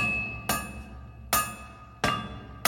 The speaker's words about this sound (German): Er versuchte, die Trümmer eines zerbrochenen Schwertes wieder zusammenzusetzen.